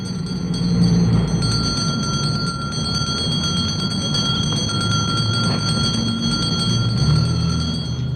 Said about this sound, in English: We not only see Santa Clauses in the department stores, but there are many, many Santa Clauses in the streets, ringing bells like this.